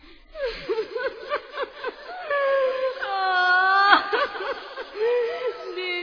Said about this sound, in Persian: چند نفر توی قصارخونه ایستاده بودن و زنی که بین بچه ها شیون میکرد و خاک به سرش می پاشید.